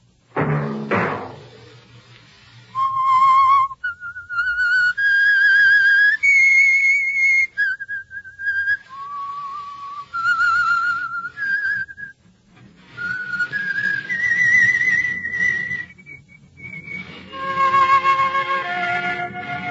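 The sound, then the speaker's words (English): A lone whistled melody of long, sustained notes that glide up and down in a slow, haunting tune, clear and steady, opening right after a brief dull thump; the whistled theme signal of the Signal Oil radio program The Whistler. “Be your signal for the Signal Oil program, The Whistler, each Wednesday night at this same time, brought to you by the Signal Oil Company,”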